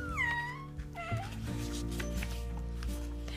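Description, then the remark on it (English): Two drawn-out cat meows, a longer one followed by a shorter, rising one, and then a steady low background rumble continues with no voice present. “Mewed the cat.”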